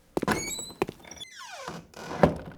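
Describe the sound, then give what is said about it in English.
Door sounds: a couple of sharp knocks and thuds, a long creaking squeal that slides downward, then a solid thunk as the door shuts and is locked. No one speaks. “I think he locked the door.”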